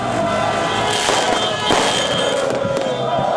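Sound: fireworks exploding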